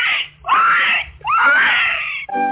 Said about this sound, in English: And the little pig, he squealed.